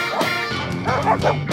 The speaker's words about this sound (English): As the morning sun peeks through the dark, doggone dogs begin to bark.